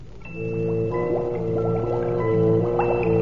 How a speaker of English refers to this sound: It is like a scene out of hell itself. That rock cauldron, boiling, bubbling, constantly stirred by those ape-like men.